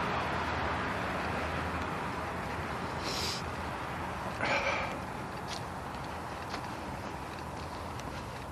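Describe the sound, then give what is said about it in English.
A noisy diesel truck rumbles by, a steady, dense engine roar that fills the whole stretch with a couple of brief hissing bursts over it. “My, what a noisy diesel truck.”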